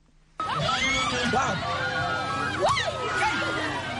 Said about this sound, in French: Ces cris sont des manifestations de joie devant la bravo d'un jeune homme qui a reçu sans broncher les coups de fouet, signe de son passage à l'âge adulte.